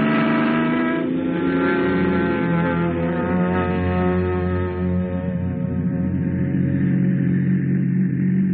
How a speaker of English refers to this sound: Ah, vacation, here we come. Come on, car, let's go.